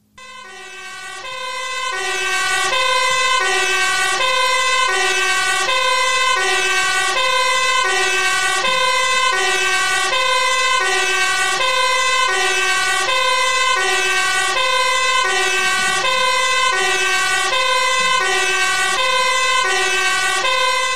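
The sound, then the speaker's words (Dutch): A loud fire engine siren wails in a steady two-tone pattern, alternating pitch every second or so and sounding on without pause, with no voices. “de ambulances waren op, dus ze sturen nu de brandweer het land in.”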